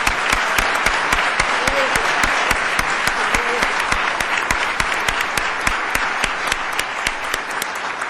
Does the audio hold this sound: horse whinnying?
no